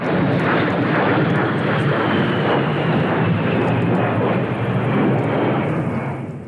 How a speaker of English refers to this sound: The A-10 Warthog is a loud jet fighter plane.